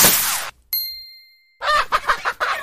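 A rushing whoosh and a ringing chime give way to a cluster of chickens clucking excitedly, several quick, overlapping squawks, fairly loud over the last second.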